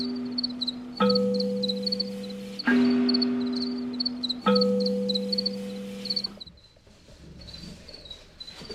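A colony of many male crickets chirp steadily in overlapping, interlocking polyrhythms, a dense high trill throughout, while three deep resonant tones ring out one after another and slowly fade beneath them.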